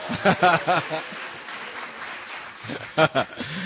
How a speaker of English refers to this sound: Give it up for Charles Darwin. Oh, there's some creationists in here. Darwin didn't get as many applause, much applause.